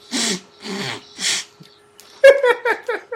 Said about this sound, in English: You blow your nose like a cartoon character. Shut up. That was me blowing my nose.